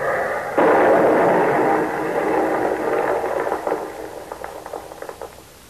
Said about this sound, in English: Hit the dirt. It's a Jerry plane.